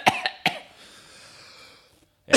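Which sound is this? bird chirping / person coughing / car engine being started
person coughing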